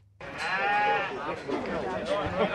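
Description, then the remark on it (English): Several sheep bleat loudly, their wavering cries overlapping in a continuous chorus, with the busy background din of a crowded livestock yard at the Horsham Sale Yards in Western Victoria, Australia, where sheep are being bought for an abattoir. “At the Horsham Sale Yards in Western Victoria”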